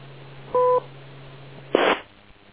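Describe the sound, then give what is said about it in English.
A short, steady two-tone radio beep lasting about a quarter second sounds over a low, constant hum, followed a moment later by a brief burst of static hiss. No one speaks. “Wait for the beep, but tell me, what does that wire look like?”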